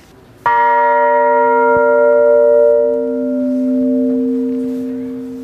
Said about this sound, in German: Also das Spannende ist, dass der Glockenklang an sich aus verschiedenen Obertönen besteht. Hier zum Beispiel die Glocke hat den Ton B.